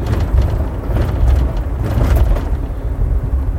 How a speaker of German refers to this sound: Und regelmäßige Hörer erkennen an dem Gebumper jetzt hier schon, die Europabrücke ist erreicht.